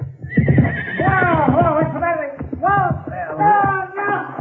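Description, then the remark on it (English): A horse neighs loudly and at length, its shrill whinny rising and wavering in repeated bursts across several seconds, prominent, after Pancho hits it with a slingshot. “Pancho, hit your horse with a slingshot, Bandito.”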